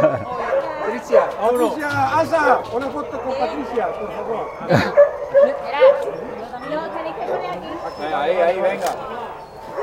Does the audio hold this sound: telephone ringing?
no